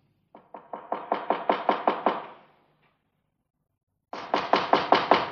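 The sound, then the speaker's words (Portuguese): Two bursts of loud, rapid knocking on the door of a house made of chocolate candy, the first a run of about nine raps that grow stronger, then a pause before another quick series of knocks. No voices. “Maninho, bate na porta.”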